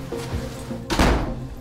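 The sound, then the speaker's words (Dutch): A house front door swings shut with a single solid, heavy thud, preceded by a faint creak of movement and followed by a short, dull ring. “Dit is de voordeur van Cor Sukking.”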